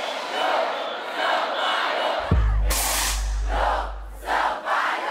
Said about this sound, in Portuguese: virou, tipo, um hino mesmo, assim, a abertura do meu show, acontece em vários momentos do meu show esse grito, assim.